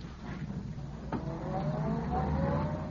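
A car engine catches after a brief thump as a man gets into the car, then its rising drone builds steadily as the vehicle pulls away, with no talking.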